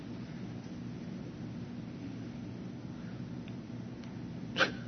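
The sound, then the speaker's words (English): A steady, deep rumble of thunder during a lightning storm rolls on throughout, low and continuous, with one brief sharper crack near the end. No voices are heard. “Watch this lightning.”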